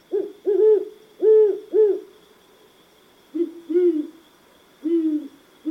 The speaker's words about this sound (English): Throughout most of the Americas, great horned owls are the preeminent predatory bird of the night, and they are ferocious.